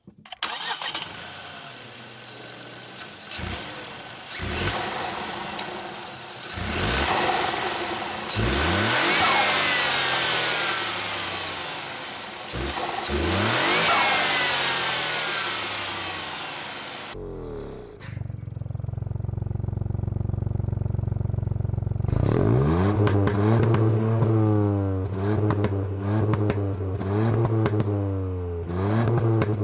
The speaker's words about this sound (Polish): Ale dobra, nim przejdę do dalszej opowieści, najpierw posłuchajmy sobie dźwięku silnika. Zarówno z przodu i z tyłu, bo Ford potrafi to zrobić na swój sposób.